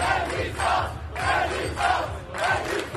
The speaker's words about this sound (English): These demonstrators in Bordeaux shouted, "Resistance, resistance."